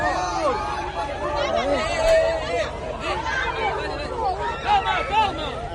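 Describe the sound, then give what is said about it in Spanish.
A dense crowd of people, holding up phones, swarms and clamors around Lamine Yamal as he leaves a venue in Puerto Banús, Marbella. Many overlapping voices shout and chatter at once in a steady, loud babble that surges in brief peaks. “Rodeado de móviles, de gente, pero montones de gente.”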